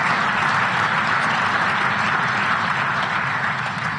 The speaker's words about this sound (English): I hope that's not the last bit of applause that I get